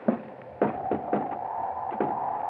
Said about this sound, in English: Oh, I see. Wind blew the door of the outhouse unlatched. I'll close it so it doesn't get blown off.